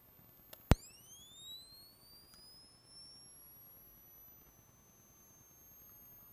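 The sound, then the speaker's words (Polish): An old camera flash charging: a sharp click, then a thin high-pitched whine that glides steadily upward in pitch and holds a faint, steady tone, with no voices. “Ten taki charakterystyczny pisk, który zniknął już w nowych lampach błyskowych.”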